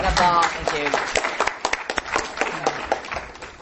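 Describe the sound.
An audience breaks into applause, many hands clapping in a dense, irregular patter that stays steady and fairly loud, with a voice briefly audible at the start.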